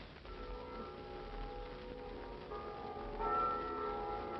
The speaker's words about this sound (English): What are all those bells? The bells of every church in Philadelphia are ringing. Why? To welcome you to the city.